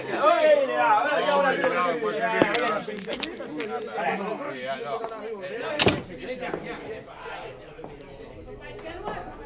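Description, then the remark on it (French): A door opens with a couple of sharp clunks and a thud while several voices chatter in the background throughout. “Une porte qui s'ouvre.”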